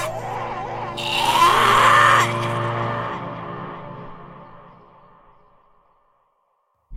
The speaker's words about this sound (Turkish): Tüm bedeni, yüzünün her kıvrımı kasılıyor. Ağzından köpükler çıkıyordu. Göğüs kafesinden çıkan o acı çığlık tüm Çatalhöyük'te yankılandı.